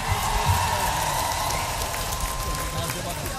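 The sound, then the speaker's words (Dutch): Steady, dense clapping from a crowd applauding a choir, a loud continuous patter that holds evenly throughout with a faint murmur of voices underneath. “Applaus voor jullie, man!”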